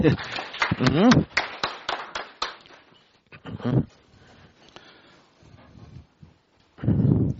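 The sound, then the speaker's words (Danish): A scattering of sharp handclaps from a small group at a listed company's shareholder meeting, approving the election of the meeting chairman, rings out irregularly for a couple of seconds, then fades as a man begins talking. “Jeg går ud fra, at det I klapper betyder, at I har godkendt mig som dirigent.”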